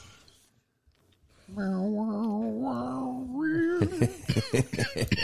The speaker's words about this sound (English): Hang on, I got a cough. I'm dying of allergies here. Nothing I take works anymore.